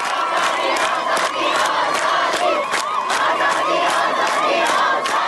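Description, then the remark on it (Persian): A large crowd of university students in Najafabad, Isfahan chants protest slogans, including "headscarves in the wind of freedom", a loud, dense mass of voices with rhythmic shouted accents and a sung, rising-and-falling line running steadily throughout. “دانشجویان نجف آباد اصفهان روسری‌ها در باد آزادی را خواندند.”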